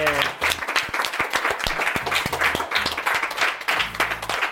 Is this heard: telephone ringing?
no